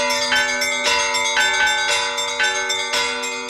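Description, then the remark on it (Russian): Church bells ring out in a continuous peal, several bells striking in quick succession with rich, sustained overtones that overlap and hum between strikes. Fairly loud, with no voices. “Голос колокольни созывал людей на богослужение или вече”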